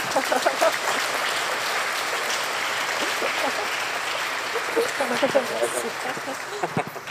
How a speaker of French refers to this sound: Vous avez le droit d'applaudir, ce n'est pas interdit dans un temple.